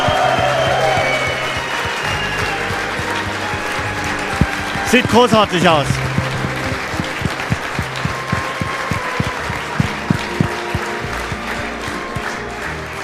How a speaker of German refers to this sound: Nochmal Applaus, hey, für den Ralf!